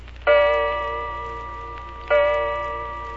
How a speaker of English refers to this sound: You hear the old grandfather clock in the hall strike the hour.